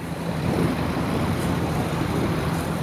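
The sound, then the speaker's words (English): A boat motor drones steadily beneath a constant wash of rushing water, loud, with a low engine hum running unbroken through the whole stretch and no voices. Recorded on a boat beneath the Bay Bridge. “Most of the tape I got was muffled by the sounds of a running motor and the rushing water, like this.”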